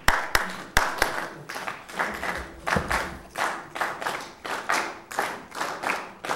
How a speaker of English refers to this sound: When I hit the clipboard, you keep clapping. When I don't, you stop. All right, clap.